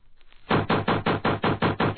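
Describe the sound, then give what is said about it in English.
Loud, rapid knocking on a door, about eight or nine firm blows in a steady, insistent rhythm, with no voices over it. “Girl, open the door.”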